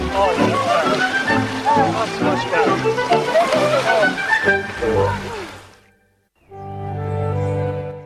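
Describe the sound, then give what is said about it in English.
People splash and thrash about in freezing sea water as they are pushed in, with loud overlapping shouts and laughter for several seconds before it cuts off abruptly. “… pushes him into the sea. They both grab … and push her in.”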